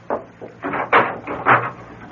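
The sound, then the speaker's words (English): A door is opened and shut as a visiting doctor lets themselves out, a short run of wooden clunks and rattles in quick succession, with no voices. “No, don't bother to come to the door. I'll let myself out.”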